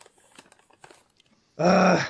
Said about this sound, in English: That dog's moving about again.